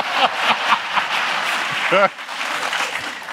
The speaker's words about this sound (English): Keep the applause when you get them.